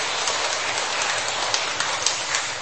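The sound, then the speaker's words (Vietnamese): A steady round of applause from many hands at a church service, given in thanks to a child, a dense, even crackle of clapping that holds at the same level throughout with a few sharper claps standing out. “Một tràng pháo tay để cảm ơn đó.”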